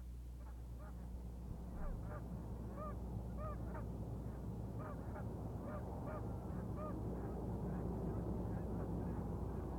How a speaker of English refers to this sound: Heavy noontime traffic passes by as about 30 geese enjoy pond waters located only about 75 yards from the busy four-lane street.